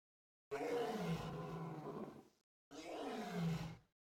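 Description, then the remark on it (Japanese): Two long, deep roars of the very large demon king Behemoth with a gap between them, loud and growling with a falling pitch, heard alone without any talking. “うなり声を上げるのは魔王ベヒモス。”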